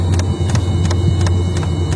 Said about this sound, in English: The fuel pump from the Robusto is ticking like a maniac.